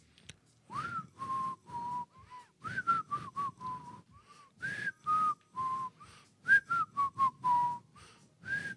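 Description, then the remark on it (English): A person whistles a melodic tune alone, with a steady series of clear notes and short breaths between phrases, moderately loud. “New whistles. New types of whistles every week.”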